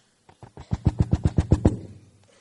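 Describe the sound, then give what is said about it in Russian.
A rapid, even series of about ten hollow knocks on the door of the first house in a village, loud and thudding, building slightly then stopping, with no voices. “Пошел в первый дом и постучал.”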